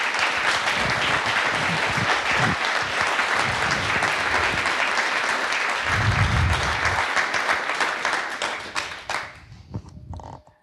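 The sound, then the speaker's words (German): Sustained audience applause at the Easter Hack event, thanking the organizers: a dense, steady wash of many hands clapping for about nine seconds before thinning out into scattered claps and fading away. No one speaks over it. “Und nochmal großen Applaus, bitte.”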